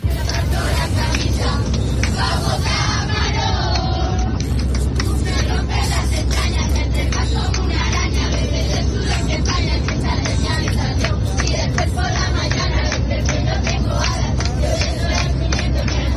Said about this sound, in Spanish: Y es que un grupo de niños que volvían de un viaje de estudios, pues comenzó a corear sus canciones durante el vuelo. Sonaban así.